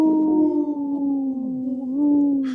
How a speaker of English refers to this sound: I'm just looking at the little video. The dog, he looks like, or the wolf, he looks like he takes another little, like, short howl.